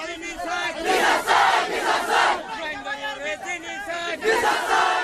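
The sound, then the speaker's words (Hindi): A large crowd of Rohingya refugees protesting in Bangladesh chants slogans for justice in unison, loud rhythmic bursts of many voices rising and falling, with a second surge of shouting near the end. “ये थी बांग्लादेश में रोहिंग्या शरणार्थियों के प्रदर्शन की आवाजें।”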